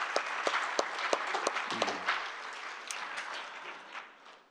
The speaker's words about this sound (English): Let's give them a hand of applause, okay? It's their 25th anniversary today.